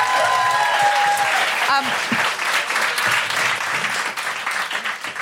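An audience at a live show claps loudly and steadily for several seconds, a dense, rapid wash of applause with a brief high whistle early on and a few cheers mixed in.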